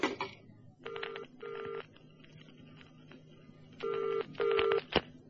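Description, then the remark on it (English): A telephone on a direct line to a train, line number 5, rings in two double bursts, each pair of buzzy tones separated by a pause, over a low hum with a faint click at the start and a sharp click near the end. No voices. “You got a phone link with the train yet? Yes, direct line, sir, number 5.”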